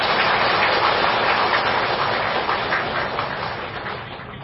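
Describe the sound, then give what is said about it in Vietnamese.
A crowd applauds, called on to celebrate Buddhist followers reaching old age, with dense, steady clapping that holds strong throughout, then begins to taper slightly toward the end, with no voices heard. “Nhờ Phật cho nên mừng cho các Phật tử được hưởng thọ trung thọ và thượng thọ, thêm một tràng pháo tay.”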